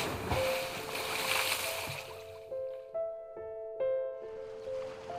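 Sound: stormy sea waves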